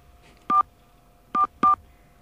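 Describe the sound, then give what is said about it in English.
Three short telephone keypad tones beep as NBC's home phone number is entered into an automated phone line, one on its own and then a quick pair, each a steady dual-pitched electronic tone against a faint hum. “We're going to enter NBC's home phone number.”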